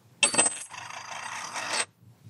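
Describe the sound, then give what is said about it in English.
A gold coin is dropped onto a wooden countertop, clattering down, followed by a bright, sustained high-pitched ringing shimmer that lasts over a second before cutting off. No one speaks. “So I dropped both of them one at a time on a piece of, on a like a granite countertop, which I don't have here.”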